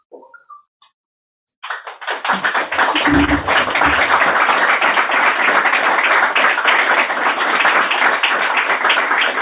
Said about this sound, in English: You gave me a really nice clap, so I was like, oh, I should sit down.